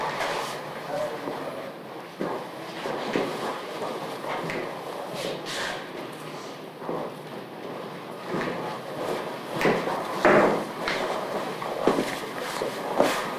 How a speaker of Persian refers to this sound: یه صندلی برده برای خود بیار اینجا.